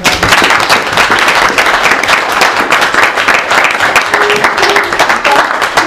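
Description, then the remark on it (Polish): An audience claps steadily for about six seconds for young people who stopped a drunk person from driving, a dense, loud patter of many hands with no break and no voices rising above it. “Myślę, Szanowni Państwo, że należą im się wielkie brawa za to.”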